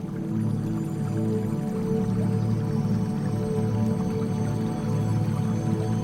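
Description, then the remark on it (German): A steady, gentle trickle of spring water babbles continuously at an even level, with a soft low hum running beneath it and no voices. “Beruhigend plätschert die Quelle vor sich hin und lädt dich ein, ihr zu folgen.”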